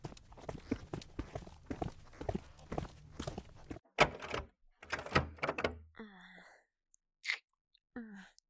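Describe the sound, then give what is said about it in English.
A curator's office door is opened and shut, with a few solid knocks and thumps followed by a short creaking squeal, after a stretch of muffled talking and shuffling. “Just let me get the door.”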